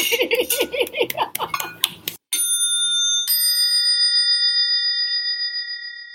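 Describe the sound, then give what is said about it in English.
Several voices shout goodbye together briefly, then glasses clink twice, each strike leaving a bright, high ringing tone that lingers and slowly fades. “I believe the perfect way to end this is to all shout goodbye and clink a glass.”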